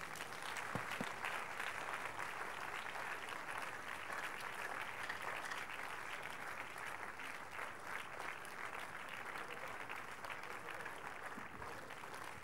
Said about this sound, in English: Shall we please rise unto our feet this morning and give the Lord the biggest clap of praise?